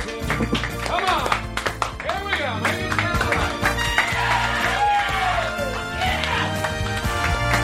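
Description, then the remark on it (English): A loud, steady burst of audience applause fills the whole stretch, dense clapping mixed with whoops and cheering voices rising and falling over it. “All right, everybody, nice round of applause.”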